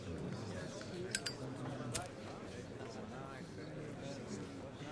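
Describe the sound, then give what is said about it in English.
A few quick, bright clinks of glasses ring out near the start as Golda and her ministers toast, amid a steady murmur of several people chatting in the cabinet room, followed by continued indistinct conversation. “She and her ministers clink glasses.”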